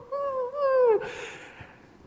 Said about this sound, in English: He comes with his staff, and he smacks the wolf. And the wolf sort of crawls off into the forest, whimpering.